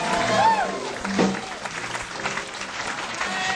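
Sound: round of applause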